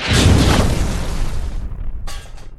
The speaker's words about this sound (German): Und die Rakete flog steil nach unten. Hilfe, wir stürzen ab! Mit einem lauten Knall stürzte die Rakete auf den Boden.